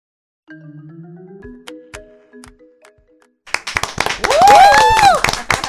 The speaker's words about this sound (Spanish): Señor, esos aplausos son para nuestro invitado, un invitado internacional, un invitado muy querido por el pueblo dominicano, al que hemos oído, seguido, cantado, aplaudido, y que dice nuestra productora que está más bello que nunca.